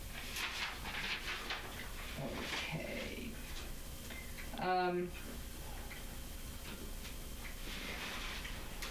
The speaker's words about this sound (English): Just realize I'm hearing this clock in here. I just noticed it for the first time. Is it okay if I stop that?